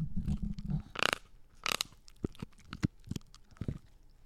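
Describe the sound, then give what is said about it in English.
A puppy named Beans gnaws on her rawhide, making irregular wet crunches and scraping bites, with a couple of louder sharp crackles among softer chewing clicks. No one speaks. “That's her chewing on her rawhide.”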